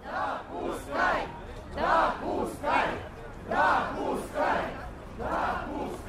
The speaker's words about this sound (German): Eine Menschenmenge steht vor dem Moskauer Rathaus. Einige klopfen an die schwere Tür des Gebäudes. Die Menge skandiert Zulassen und Veränderungen. So geschehen am Sonntagnachmittag.